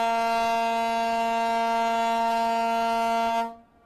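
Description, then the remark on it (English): A ferry horn on the Evergreen State Ferry, departing from the Fauntleroy Ferry Dock in West Seattle across Puget Sound to the north end of Vashon, sounds one long, loud blast: a steady, low, brassy tone rich in overtones, held for about three and a half seconds before cutting off abruptly, with no talking. “Oh, sorry, I should have warned you. We're boarding the Evergreen State Ferry.”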